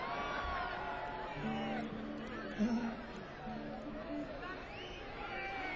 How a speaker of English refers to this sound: Okay, I can't understand you. You all yell at once, okay?